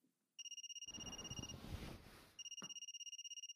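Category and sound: household object, mobile phone ringing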